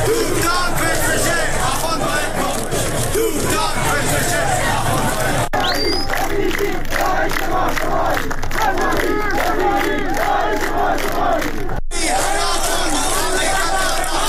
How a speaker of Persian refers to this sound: معترضان در زاهدان در 16th جمعه اعتراضات پس از نماز جمعه راهپیمایی کردند و شعارهایی ضد حکومتی از جمله حکومت بچه کش نمیخوایم، سپاهی بسیجی داعش ما شمایی و تهرانی با غیرت حمایت حمایت سر دادند.